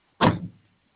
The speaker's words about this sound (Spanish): ¿Me manda su primera puerta, por favor? Abro puerta. Cierro puerta.